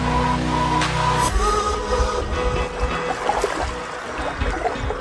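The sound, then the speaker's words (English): Gentle, steady wash of calm ocean water at 6:20 a.m. on a cold morning of 3 to 4 degrees, with soft trickling and a low rumble underneath, following a brief sustained musical tone that cuts off in the first second. “The ocean is calm, but it's a bitey 3 to 4 degrees this morning.”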